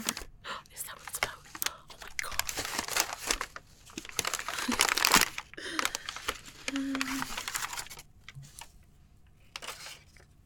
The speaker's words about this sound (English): Crinkly paper.